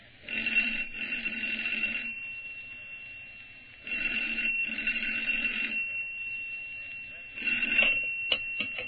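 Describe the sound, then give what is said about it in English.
An old-fashioned telephone rings shortly before 5 in the afternoon in three bright, rattling bursts separated by short pauses, fairly loud, with the last ring cut short. “shortly before 5 in the afternoon, Study received a phone call.”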